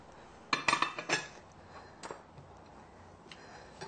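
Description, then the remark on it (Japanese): A quick cluster of sharp clinks and clatters of a plate and utensils being handled while draining tofu for goya champuru, followed by a few softer taps and then quiet room tone. “お皿に水分を捨てまして、キッチンペーパーで、あるいはタオルで、布巾でですね、そして、挟みます。”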